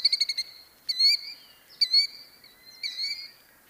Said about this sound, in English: Keeping about 3 yards ahead of my child-sized steps and outstretched arms, the bird resisted my attempts, continuing to drag its wing while calling, "Killdeer, killdeer, killdeer!"